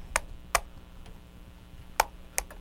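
Four sharp, bright taps of a spoon against peas, irregularly spaced with a pause in the middle, each a crisp metallic click over quiet background hum.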